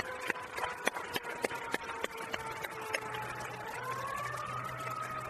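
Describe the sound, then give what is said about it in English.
A fire truck siren from a nearby firehouse wails steadily, its tone slowly bending as it passes by, with sharp rhythmic clicks early on and a low engine rumble building underneath. “You know what I won't miss? The fire trucks that seem to go by.”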